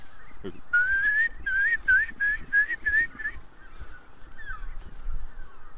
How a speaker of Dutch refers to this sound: Zonsopgang boven de Wadden. Ja, en het gaat dus ook meteen... Het gejodel van wulpen.